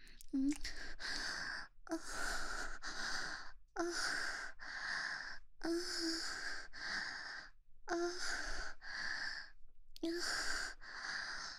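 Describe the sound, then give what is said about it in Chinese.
Heavy, breathy panting repeats in a steady rhythm, about a dozen close, fairly loud breaths with brief gaps between them, and no talking. “小哥哥们，听一听人家水声，喘息的不要不要的，好不好？”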